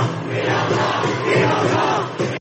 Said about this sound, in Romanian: Demonstranții îmbrăcați în negru, culoarea protestelor, au scandat "Luptați pentru Hong Kong" sau "Hong Kongul liber".